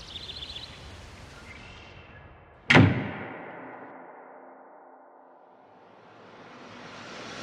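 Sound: door clicking shut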